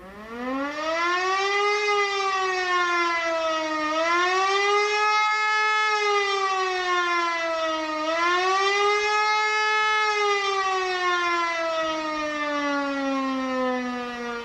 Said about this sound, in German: In schnellen Wellen, auf- und abschwellend, hallt der gefürchtete ABC-Alarm durch das Dorf.